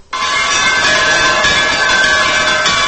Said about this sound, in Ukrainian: Напрочуд спокійну, негаласливу атмосферу Ното час від часу порушують церковні дзвони. У будь-якому, хай віддаленому куточку, їх чути всюди.